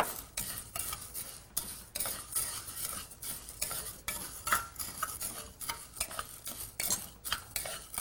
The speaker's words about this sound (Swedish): Ja, den fräser lite grann. Vi kan tillsätta våra linser. Och röra runt.